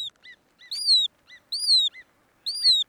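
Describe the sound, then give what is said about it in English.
Hudsonian godwit, a species of sandpiper, calls: three bursts of sharp, high, downward-slurring whistles, each led by quick short chips, clear with silence between. “100 years ago, we'd given up on the Hudsonian godwit.”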